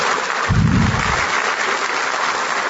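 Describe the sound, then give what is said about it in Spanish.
Audience applause, a steady dense crackle of clapping hands that holds at an even, fairly loud level for about three seconds, with a brief low thump early on. “Un aplauso para mi op.”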